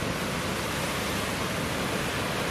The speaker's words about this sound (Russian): Все спрашивали, знаешь, как бывает ли у нас шторма. Но, наверное, это вот штормы есть, правильно? Вот оно тут. Вот сейчас они стрелятся, две волны, смотри.